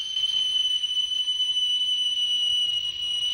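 A man whistles a shrill, steady whistle that holds one high pitch for several seconds without a break, loud and piercing, with only a faint low rumble underneath and no voices.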